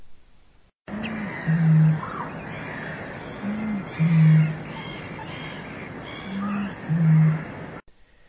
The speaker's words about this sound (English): That booming noise is the song of the bittern, a water bird which is now very rare in England. Bitterns still live in Sutton Fen.